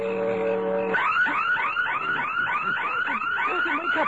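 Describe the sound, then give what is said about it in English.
A burglar alarm blares: a steady harsh buzzing tone for about a second, then loud, rapid whooping sweeps that repeat rhythmically and continuously, with no voices. “It's the burglar alarm.”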